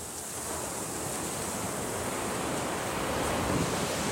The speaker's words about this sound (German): Und heute haben wir dann auch große Wellen. Man hört das Wasser fließen.